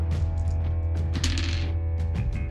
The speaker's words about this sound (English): At the end of your turn, yeah, the dice of fate do their jiggly thing.